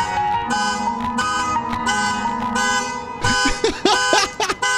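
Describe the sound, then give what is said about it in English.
A car alarm blares, loud and continuous, holding buzzy horn-like tones before breaking into quick warbling pitch sweeps toward the end. No one speaks. “That's did the whole song, and the alarm kept going.”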